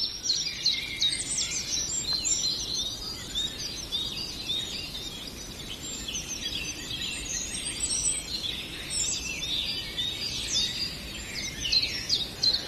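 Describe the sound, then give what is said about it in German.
Songbird alarm calls warning of an aerial predator such as a sparrowhawk or goshawk: thin, high-pitched calls repeated rapidly in a dense, continuous chorus from several birds, with no talking. “Da sprechen wir eher über die Luftalarme.”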